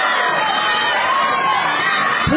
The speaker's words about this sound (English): Good cheering.